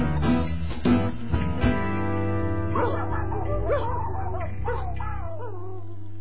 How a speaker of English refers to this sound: A nod to the fact today that we've got dogs in the studio, which we'll find out more about and meet momentarily.